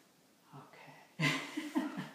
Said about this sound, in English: I am so impressed that you can yawn with all these backpacks.